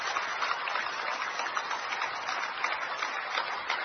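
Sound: audience applause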